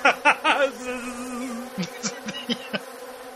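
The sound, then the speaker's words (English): A small hornet buzzes, a steady droning hum broken by rapid pulsing bursts as it moves, fairly loud with no one talking. “It's some kind of little hornet.”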